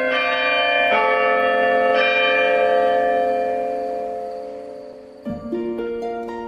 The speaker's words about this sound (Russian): И вдруг летним дождем пролился на гостей пасхальный звон. В самом деле не очень громкий, но очень радостный.